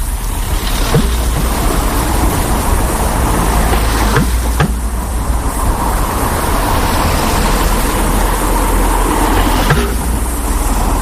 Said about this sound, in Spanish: Y que da igual que pase el autobús que va hacia Boisaca, la furgoneta del reparto del pan, que pase una bicicleta o un turismo particular. El sonido es este.